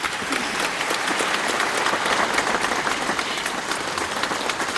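Sustained applause from a large crowd at the end of a speech, a dense, steady wash of many hands clapping at an even loudness for the whole stretch, with no voices standing out; Algerian minister Abdelkader Messaël, leading the Algerian delegation, is among those clapping.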